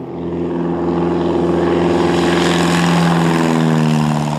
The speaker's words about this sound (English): She climbed into a little airplane to finish that solo cross-country flight.